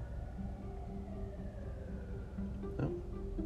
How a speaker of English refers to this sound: listen to the sirens in Boston, huh? Wow.